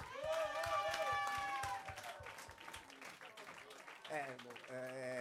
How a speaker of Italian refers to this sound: Un applauso fortissimo a Conchetta.